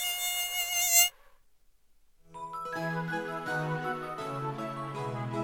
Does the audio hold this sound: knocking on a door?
no